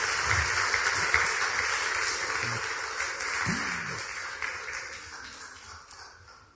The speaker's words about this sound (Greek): Λοιπόν, μέχρι να γίνουν οι συνονοήσεις, να σας πω ότι είμαστε... εδώ στο Μουσείο Τσιτσάνη. Έχουμε το κοινό μας εδώ. Δώστε ένα χειροκρότημα μέχρι να συνονοηθούν.